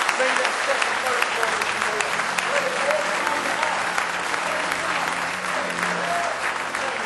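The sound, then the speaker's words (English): A crowd gives a hand clap of praise to the Lord Jesus, clapping and applauding steadily for several seconds, a dense, even wash of many hands with no pauses, fairly loud throughout, with faint voices mixed in underneath. “Let's give our Lord Jesus a real good hand clap of praise if you love him this morning.”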